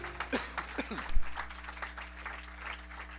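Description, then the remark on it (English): An audience claps their hands as praise to King Jesus, a steady patter of applause that peaks early and then settles into softer, sustained clapping, with a voice briefly speaking over the opening. “Give King Jesus a hand clap of praise.”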